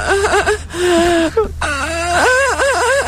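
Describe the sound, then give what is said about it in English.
A goat bleats several times in a row, loud, quavering cries with a shaky, wavering pitch, one long drawn-out bleat in the middle, and no talking. “Well, it was a goat, with, though.”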